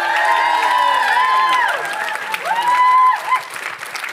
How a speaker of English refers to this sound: would you give a massive, huge round of applause, ladies and gentlemen, for the Metro Creative Team?